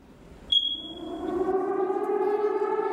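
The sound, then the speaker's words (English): A tornado warning siren wails in a steady, rising tone with layered harmonics, starting just after a brief high-pitched beep and building to a loud sustained drone with no talking. “Yep, it's a tornado, right? We hear that. I hear that in my neighborhood all the time.”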